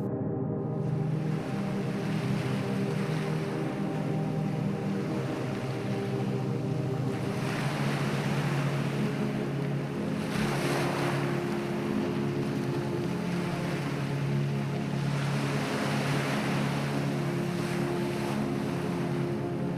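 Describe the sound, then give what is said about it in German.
Gentle sea waves wash onto a beach with a soft, continuous rush that swells every few seconds, over a steady low rumble. No voices. “Wellen rauschen leise an den Strand und der salzige Geruch in der Luft erreicht deine Sinne.”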